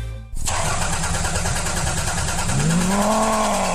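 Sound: car engine revving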